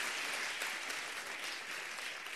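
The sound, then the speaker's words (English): A crowd claps loudly and steadily for Jesus, a dense wash of many hands slapping at once that holds at an even level throughout with no voices standing out. “Can you clap your hands for Jesus? Real loud.”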